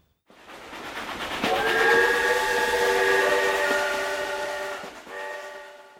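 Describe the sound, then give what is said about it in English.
A train travelling to the city rumbles along the rails while a loud, sustained steam whistle blares over it for several seconds, cuts off briefly, then sounds again near the end; no voices. “City Mouse and Country Mouse take a train to the city.”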